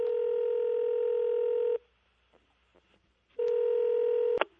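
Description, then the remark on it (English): Telephone keypad dialing tones: two long, steady electronic beeps separated by a short quiet pause, loud, with a sharp click at the very end and no voices. “May have been followed up by a phone call.”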